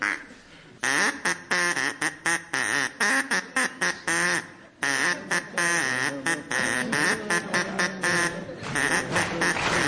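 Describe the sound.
The nursery tune Old MacDonald Had a Farm is played on a duck as a string of loud, nasal quacks, each note a short honk in quick rhythmic succession, continuous apart from one brief pause midway, with an audience clapping along.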